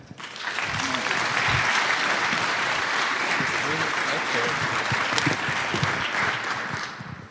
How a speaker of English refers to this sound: So that's your applause